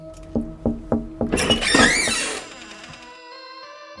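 Four evenly spaced knocks on a door, steady and moderately loud, followed by a brighter clattering burst and a sustained ringing tone that slowly fades.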